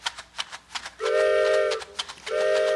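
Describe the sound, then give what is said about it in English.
A voice imitates a train coming down the tracks: quick rhythmic chugging bursts, then two long, loud whistle-like hoots, each held for about a second, with a brief chug between them. “… learned how to do the sound of the train coming down the tracks”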